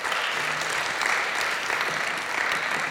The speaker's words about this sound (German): Ich bin sehr, sehr gespannt, also bitte, Herr Kröner, Applaus. Herzlichen Dank.